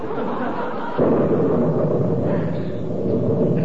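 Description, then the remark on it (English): A loud crash of thunder from a storm with frequent lightning flashes breaks in about a second after a low background rumble, then rolls on as a heavy, sustained roar with no voices over it. “Did you see that lightning? I wish it would do that oftener or quit.”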